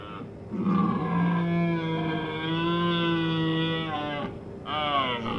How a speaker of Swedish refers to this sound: Tjutet av ett döende rådjur återkom till vänster om mig och det växte tills det ylade i mina öron. Det lät som om det kom från alla håll samtidigt.